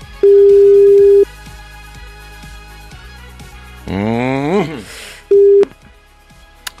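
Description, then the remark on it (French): A telephone rings for the second time of the morning during a live call on the radio station Énergie, over a low musical background: one long steady ring tone, a short warbling burst, then a briefer second ring, loud. “Le téléphone sonne pour la 2e fois de la matinée, c'est peut-être le vôtre.”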